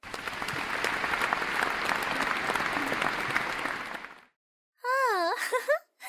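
A crowd claps in a dense, steady burst of applause for about four seconds, applauding the school principal as he is carried off the stage on a stretcher, then it cuts off. After a brief silence, a wavering, high wailing moan rises and falls.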